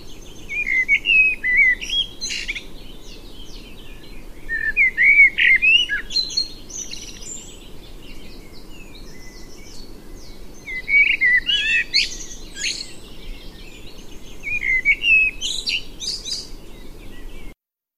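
A male common blackbird sings in clear, fluting phrases with twittering ends, repeated in bursts every few seconds over a steady low background hum, with no voices.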